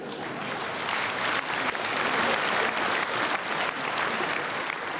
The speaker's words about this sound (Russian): Вот такие аплодисменты дорогого стоят. Это значит, все-таки люди согласны с этим.